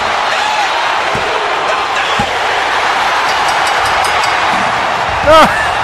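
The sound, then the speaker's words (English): A packed wrestling arena crowd roars steadily as two sharp slaps ring out about a second apart, the crowd counting along with the pinfall as Austin pins The Rock, before a rising cheer swells near the end. “Here comes the count with the crowd.”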